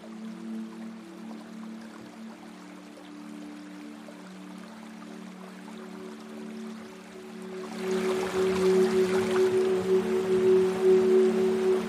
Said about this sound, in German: Das Wasser ist ganz silbern. Das Boot fährt den Fluss entlang, stromabwärts.